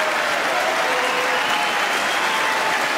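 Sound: audience cheering and applauding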